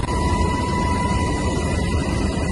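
helicopter flying

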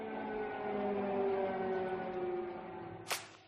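air raid sirens wailing

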